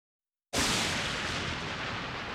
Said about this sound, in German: Dunkle Wolken, Donner. Grelle Blitze zucken über den Himmel. Und dann schlägt ein Blitz ein, entfacht Feuer.